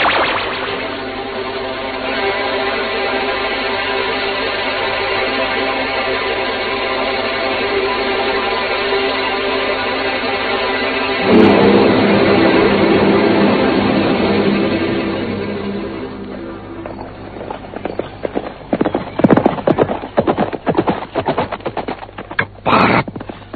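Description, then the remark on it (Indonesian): Horses gallop away in the closing seconds as fleeing riders escape on them: rapid, irregular hoofbeats pound loudly after a long, sustained droning wash of sound, with no one speaking. “Rupanya mereka sudah menyiapkan kuda.”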